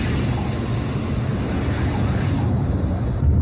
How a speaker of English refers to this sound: Parachute opens. And the jetpack's 8 engines light up.